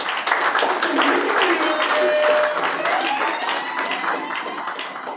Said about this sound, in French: Et donc, je vous demande de vous applaudir infiniment.